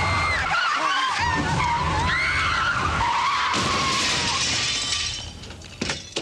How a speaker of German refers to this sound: Das Auto ist in ein Pelzgeschäft gekracht.